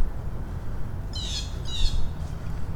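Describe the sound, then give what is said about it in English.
Two harsh, raspy bird squawks in quick succession, like alarm calls, ringing out over a steady low outdoor rumble, with a fainter third call trailing after. “That'll set birds off too.”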